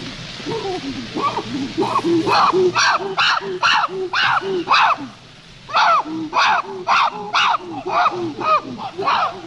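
Chimpanzees living in a troop on an islet give pant-hoots before sunrise, greeting one another: a series of rhythmic, breathy hooting calls that build into loud, high-pitched shrieks, repeated in rapid pulses with a brief lull midway before another excited round.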